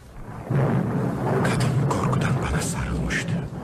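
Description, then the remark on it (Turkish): Loud, deep rolling thunder rumbles continuously for several seconds during a rainstorm with lightning over Ortaköy, swelling in after a quiet start, with a crackling, hissing texture layered over the low roar. “Ortaköy üstünde nasıl şimşekler çakıyor.”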